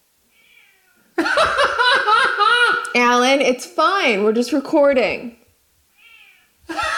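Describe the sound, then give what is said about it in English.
A cat named Alan meows insistently behind a bathroom door, a run of long, loud, drawn-out cries that rise and fall over several seconds, with a person speaking briefly near the end. “If I go to the bathroom and shut the door, literally within 2 seconds, meow, meow, meow, I'm like, Alan, I'm just in the bathroom. He's like, meow, meow. Can you guys hear him?”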